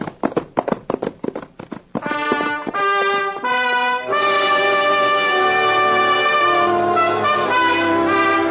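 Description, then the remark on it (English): A quick, rhythmic patter of galloping hooves, the horse Thunder chasing a pinto, sounds for a couple of seconds, then a loud, sustained burst of orchestral music takes over and carries on to the end. “Take after him, Thunder. Eat up little beaver's dust.”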